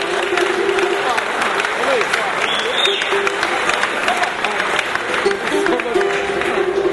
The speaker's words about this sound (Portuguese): uma salva de palmas para a compositora